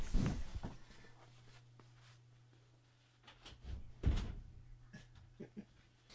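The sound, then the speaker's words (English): Muffled knocking on a door comes in scattered bursts, with one thud near the start and a louder cluster a few seconds later, over a steady low hum. “There's somebody knocking at my door.”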